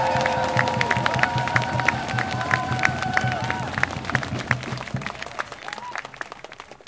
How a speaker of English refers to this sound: So please give a very generous round of applause